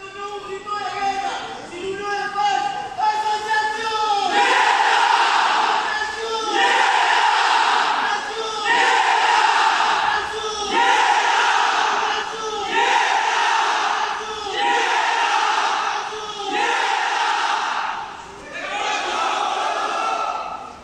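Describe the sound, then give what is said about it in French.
The Nietas group chants in unison in a ceremonial call-and-response pattern, a leader shouting "Association" answered by loud group replies of "Nietas" or "De Corazón", repeating in a steady rhythm of strong bursts roughly every two seconds. “Enfin, c'est le leader qui va crier Association et les autres répondent Nietas ou De Corazón.”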